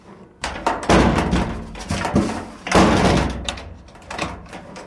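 A sheet-metal door, one half of a foley door frame with two half-doors used for sound effects, slams repeatedly with loud, clattering metallic bangs that ring and rattle, several heavy impacts in a few seconds, with no talking.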